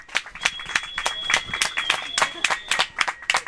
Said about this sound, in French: Je pense qu'on peut déjà remercier tous les participants de nous avoir régalé. Applaudir. On peut applaudir déjà tous les participants qui ont fait ça en une heure,